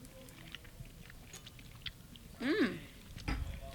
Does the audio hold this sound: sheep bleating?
no